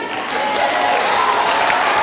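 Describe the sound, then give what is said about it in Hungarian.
Steady audience applause for a team representative from the second Rákóczi Ferenc AMK being called up, a dense, continuous patter of many hands clapping at an even, fairly loud level throughout, with no voices standing out. “Nekik is jár a taps.”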